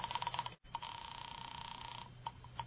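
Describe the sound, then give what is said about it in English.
A telephone rings with a thin, trilling tone, as if heard through a handset: a short burst, a brief break, then a longer sustained ring before it cuts off, leaving faint clicks. The call is to the landlady at Carlton Apartments. “I'll phone the landlady.”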